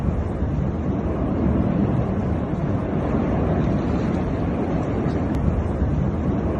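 A volcanic eruption, with lava spewing from at least eight vents in a fissured mountain, roars without pause, a dense, deep rumble with a constant hiss on top, holding steady at a loud level for several seconds with no voices.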